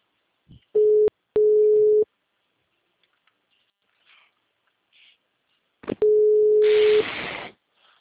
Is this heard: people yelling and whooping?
no